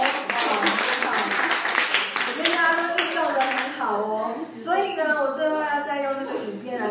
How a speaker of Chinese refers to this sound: 好，大家给自己拍拍手。